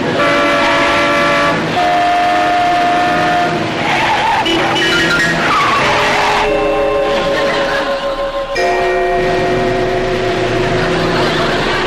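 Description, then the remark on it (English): Loud street traffic at a street corner with tires screeching in long sustained squeals, overlapping and shifting in pitch, alongside engine roar and blaring tones, continuous for about twelve seconds with no talking. “You don't think a fast man like me is going to be stopped by a few slow cars, do you?”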